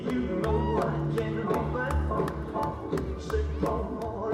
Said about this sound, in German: Das Staccato der Holztrommeln begleitet viele polynesische Tänze, die auch im Circus Samoa zum Standardprogramm gehören. Ursprünglich waren die Holztrommeln hier, wie auch in Afrika, ein Kommunikationsmittel.